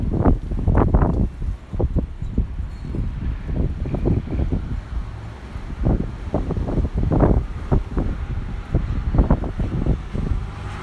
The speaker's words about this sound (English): There you go, there's some wind.